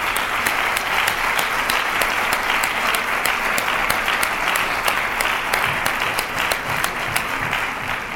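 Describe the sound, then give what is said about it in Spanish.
Loud, sustained applause from a large theatre audience at the Auditorio Municipal during the Monasteriarte theatre festival, ending a minute of silence for late actress Concha Velasco: a dense steady roar of clapping with sharp individual claps standing out, holding an even level throughout without any voices. “pidió un minuto de silencio en memoria de la actriz fallecida, Concha Velasco, que finalizó con un sonoro y prolongado aplauso.”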